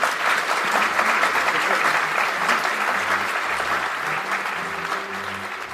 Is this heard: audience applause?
yes